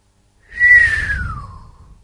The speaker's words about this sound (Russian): Присвистнул Эрн.